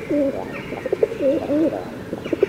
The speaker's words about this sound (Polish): To pani dokarmia te gołębie? Proszę pana, gdzie ja dokarmiam te gołębie?